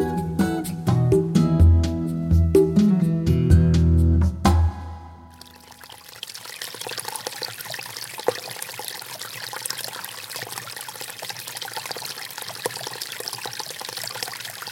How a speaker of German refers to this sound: Was so schön sprudelt, gluckert und blubbert, das ist das Wasser von einer Quelle. Wir alle kennen das Geräusch.